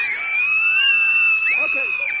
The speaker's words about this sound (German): Und alle gucken hin, große Augen, schreien laut, ah, schreien laut, machen wir alle zusammen, schreien laut, ah.